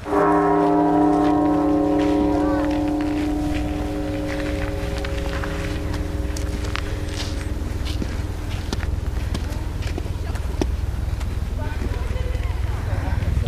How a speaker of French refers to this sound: Alors si j'ai de la chance, j'ai entendu le bruit de la cloche.